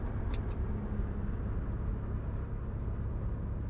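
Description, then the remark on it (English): A vehicle rolls along with a steady low rumble and road hiss while braking, with a couple of brief high squeaks early on and no voices. “So now I'm going to apply some brakes again, slowing the vehicle down.”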